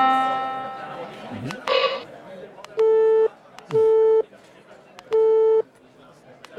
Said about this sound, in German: Wir hatten vorhin diesen Piepton. Ich mache jetzt was anderes. Ein Tropfen, ein Gong.